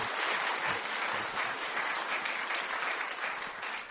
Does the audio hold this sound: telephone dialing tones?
no